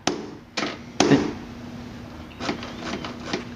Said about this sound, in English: So you hammer on the lock with a rubber hammer. The force will cause the latch to go down, and you have to experiment a little bit because you need to apply the opening force at the correct time, but this will allow you to open the lock as well.